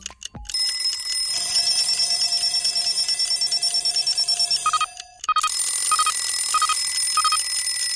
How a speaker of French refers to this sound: Ce matin, c'est la panique chez la famille Taupin. Personne n'a entendu les 10 réveils sonner.